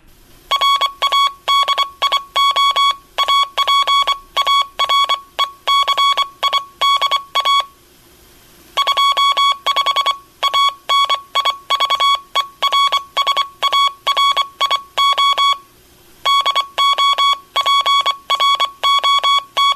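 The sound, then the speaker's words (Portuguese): A steady, fairly high-pitched tone keyed on and off in short and long pulses, sending Morse code (CW) that spells out Rádio Aparecida 25 anos for the 25th anniversary of the Encontro DX program on Rádio Aparecida. The dots and dashes run continuously, with two brief pauses between groups, and nobody speaks. “Então, vamos ver aí como é que fica, através do código Morse CW, Rádio Aparecida 25 anos ou 25º aniversário do programa Encontro DX.”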